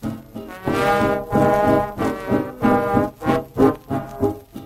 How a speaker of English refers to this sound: Tell me, where did you learn to toot that horn?